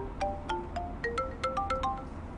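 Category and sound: signal or alarm, mobile phone ringtone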